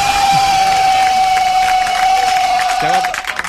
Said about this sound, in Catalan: La gent està, perdoneu, la gent està aplaudint a la vida.